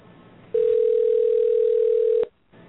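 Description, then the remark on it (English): A loud, steady telephone dial tone, heard while redialing a dropped call, holds one unbroken pitch for under two seconds, then cuts off abruptly with a click, leaving faint line hiss on either side. “Yep, we dropped him. Let me try and get him back on the line.”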